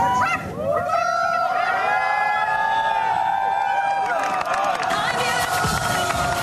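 A huge outdoor crowd of thousands on the South Lawn roars and cheers continuously after President Biden signed the Respect for Marriage Act into law, with whoops, shouts and high-pitched yells layered over a dense, steady wall of applause-like noise.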